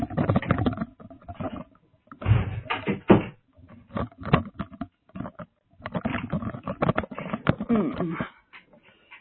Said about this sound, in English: Hang on 1 minute while I shut my door and see if I can stop the sound of that dog barking.